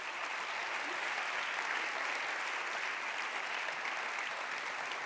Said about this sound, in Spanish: un fuerte aplauso para este cierre musical que desde luego ha sido una auténtica maravilla. Gracias.